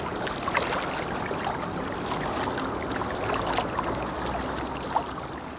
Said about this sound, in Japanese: この安比川、二戸市内を流れる馬淵川と比べてみますと、馬淵川公園のあたりのようなゴツゴツした岩肌が見えてないからでしょうか、また少し違った趣を感じます。実際の水の流れも傾斜のせいでしょうか、見慣れた馬淵川と比べると幾分穏やかな感じがします。